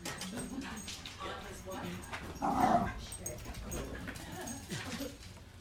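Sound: puppy barking or whimpering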